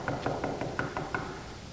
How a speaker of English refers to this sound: In fact, I went to this family's house one time and I knocked on the door.